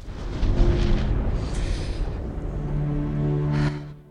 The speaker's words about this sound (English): Lightning flashes.